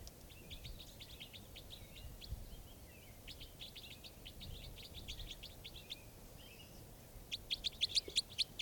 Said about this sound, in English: So I caught two birds here in the net, and the other birds, these are the other birds calling.